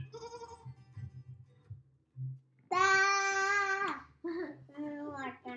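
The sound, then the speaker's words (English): A goat bleats loudly in one long wavering cry, followed by two shorter bleats, with softer bleating sounds and a low hum before it. “Goat jumped over the fence, of course.”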